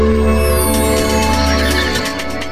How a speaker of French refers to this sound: je t'en prie, va répondre à ton téléphone, fais-toi plaisir.